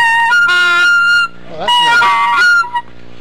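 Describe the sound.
A duck call is blown loud: a sustained reedy honk, a brief pause, then a wavering, bending series of nasal quacks that trails off with a short final blip.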